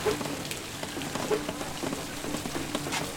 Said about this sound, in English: The rain. The sky. Is gray It is raining.